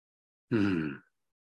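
yawning

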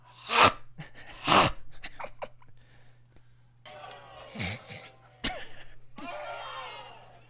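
audience gasping

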